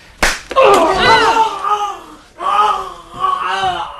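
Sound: single hand clap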